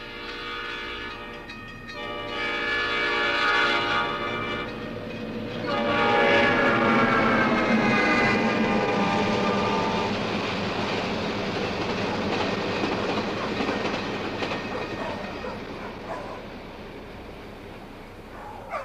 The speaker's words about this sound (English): a modern American train, no steam whistle, but that electric warning sound and the clanging of the gates and the rush of the train completely beyond us, just a streak going by, which the dogs bark at, and then it fades in the distance. Here it comes!